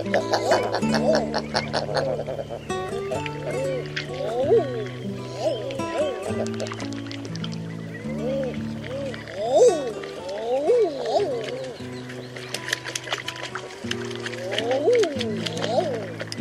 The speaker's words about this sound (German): Das war die Eiderente.